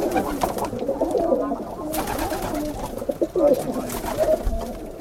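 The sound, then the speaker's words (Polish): Several pigeons coo steadily, their low, throaty calls overlapping in a continuous murmur with soft rustling and wing flutters mixed in. “Ta uciążliwość związana z tymi ptakami, nie do końca tak mi się wydaje, przynajmniej to jest moje takie zdanie, że osoby te zawsze się bronią tym, że niekoniecznie to moje ptaki mogą panu szkodzić, bo mogą też dzikie gołębie przelatywać i też zrobić.”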